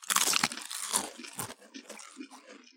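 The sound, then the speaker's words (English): Loud crunching as someone bites into a crisp snack, a burst of sharp brittle cracks up front that settles into softer chewing crunches. “All right, are we crunching off?”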